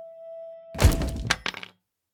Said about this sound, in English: Casca is brought to her senses by a blunt sound, the crack of wood breaking. She's knocked over one of the figurines.